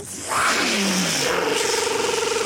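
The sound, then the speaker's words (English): A loud engine roar rises suddenly as an airplane buzzes low over an airfield and its building, its droning pitch sliding downward, then settling into a steady buzzing whine with a faint pulsing flutter as it turns. “What a crazy jockey is buzzing the field like that! Is that an Army plane, Charlie?”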